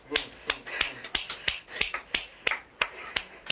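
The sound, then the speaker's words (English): Finger snaps patter in an uneven, sparse rhythm, roughly a dozen crisp clicks over a few seconds, imitating a light drizzle of rain as a choir's performance of an African rainstorm goes back into a drizzle. No one speaks. “And then it goes back into a drizzle.”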